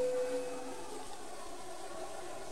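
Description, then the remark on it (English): A large plane's engines roar steadily through the air, a constant broad rushing drone with a faint tonal whine at the start that fades away. “A large plane flies through the air.”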